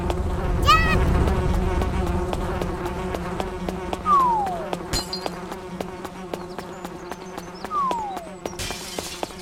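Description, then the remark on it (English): Steady insect-like buzzing from little video game bees that drop things on the player drones throughout, layered with repeated clicks, a couple of descending swoop tones, and bright chiming blips, all continuous. “Oh yes, and not to mention there's not only stones that want to kill you, but these little bees that want to drop shit on you.”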